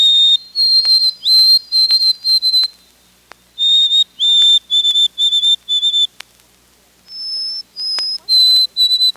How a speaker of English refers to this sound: The white-throated sparrow's whistled song follows the rhythm pattern Old Sam Peabody, Peabody, Peabody, Peabody, unless you're north of the border, where it's interpreted as Oh Sweet Canada, Canada, Canada, Canada.